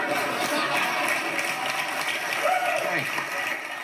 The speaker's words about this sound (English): You can hear some gasps among that really awkward applause, and Bill Maher has apologized, but I don't know, is it enough at this point, or is it time for him to go?